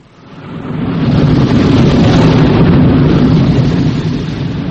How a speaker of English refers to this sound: Engines restarted, sir.